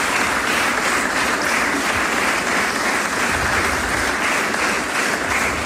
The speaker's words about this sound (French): Merci. Un grand merci. Et on peut les applaudir, je crois.